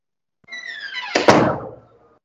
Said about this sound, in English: Banging on my door. You ain't police.